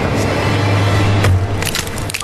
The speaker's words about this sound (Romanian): Pul, am spart ușa prea târziu.